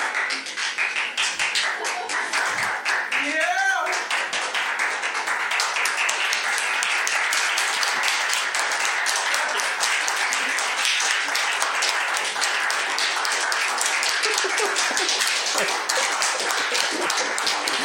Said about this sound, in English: I want to propose Friendly Town applauds for a fucking hour. Where the entire show is just us applauding for a fucking hour, and that's just the whole recording.